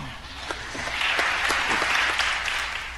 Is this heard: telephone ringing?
no